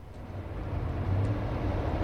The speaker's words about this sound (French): Dans l'habitacle de la voiture.